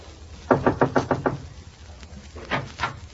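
Alan Young knocks on the door of Yvette Fromage at 45 Spruce: a quick run of six sharp knocks, then a short pause and two more firm raps, clear with no voices.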